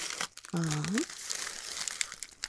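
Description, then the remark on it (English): Continuous crinkling and rustling of pink wrapping paper being handled while unpacking, with irregular crackly bursts. A short voiced utterance briefly rises over the rustling near the start. “Pretty pink paper.”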